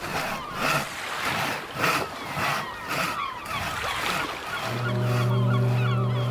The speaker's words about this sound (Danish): Et lille fragtskib ligger til. Rebet strammes mod en pæl.